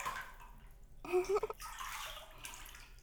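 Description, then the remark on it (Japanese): Gentle running water trickles and splashes, with a few distinct drips and plops in the middle before the steady flow continues quietly. “水の音、気持ちいいですか？”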